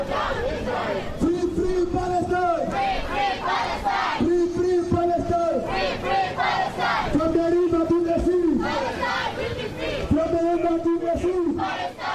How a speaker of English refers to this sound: Here's more crowd sound from the event. Down, Israel.